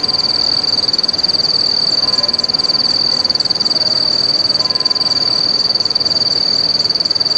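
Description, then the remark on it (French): Loud, continuous chirring of cicadas, a sound typical of the French countryside: a steady high-pitched buzz with a fast pulsing texture that never lets up, heard alone with no voices. “Le tintement des cloches d'une église, le chant du coq, ou encore celui des cigales.”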